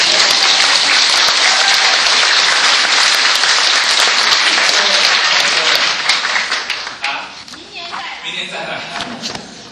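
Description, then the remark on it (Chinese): A crowd at a Christian gathering bursts into loud, sustained applause welcoming first-time attendees, dense clapping that holds steady for several seconds before thinning out and tapering off near the end, with a few scattered claps and murmurs lingering. “哎，我们是要鼓掌欢迎他们一下。”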